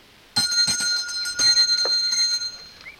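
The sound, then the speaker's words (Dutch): A hand bell on a post of a landing pier is rung briskly several times, its bright metallic clangs ringing with sustained overtones that overlap and fade out over a few seconds, fairly loud, with no voices. “Aan een paal van de landingsteiger zit een bel. Als u belt, dan komt hij wel.”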